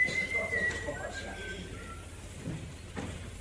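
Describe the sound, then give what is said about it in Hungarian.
Someone whistles a thin, sustained tune that drifts slightly downward for a couple of seconds, then fades, over a low muffled background with faint voice-like murmurs. “Ne fütyülj mások, hogy tehetsz ilyen?”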